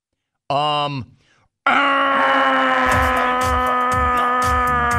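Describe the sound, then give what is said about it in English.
A voice imitates a game-show buzzer with a short, harsh, downward-sliding buzz, then after a brief gap a long, loud, steady buzzing drone follows, pulsing rhythmically until the end. “That may have been one of the all-time great manual buzzers.”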